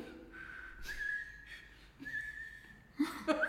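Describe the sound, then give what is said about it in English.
Thin, breathy whistling drawn in on an inhale, a wavering high tone that sputters in short bursts with airy hiss and a few sharper squeaky notes near the end. “I have to like suck, not like blow.”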